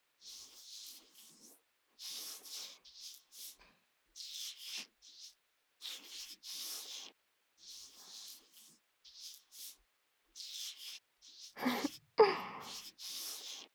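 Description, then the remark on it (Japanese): A hand strokes a cheek in a steady series of soft, hissy rubbing sweeps, about a dozen strokes with brief pauses between, the last few fuller and louder. No one speaks. “そうだ、このままほっぺ撫でたら今よりもっとドキドキできちゃうかも。”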